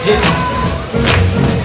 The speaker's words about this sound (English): Oh, let me hear a little foot stomping.